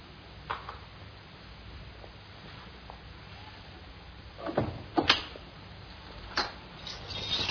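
A door opens or closes with a few sharp knocks and clunks about two-thirds of the way in, then a final thud, over a faint, steady background hum.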